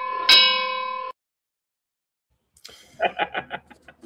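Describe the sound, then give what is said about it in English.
A single loud bell strike rings out with a bright, sustained metallic tone that cuts off abruptly, followed by a pause and then a voice. “So as we get ready here, as I did last week, we have the opening bell for you.”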